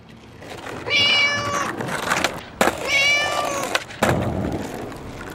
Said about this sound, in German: Das ist eine Katze und die fährt nicht Inliner, sondern Skateboard.